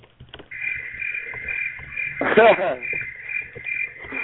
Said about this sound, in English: Oh, those fucking crickets, as you like to fucking say. I'll fucking shoot them in the face.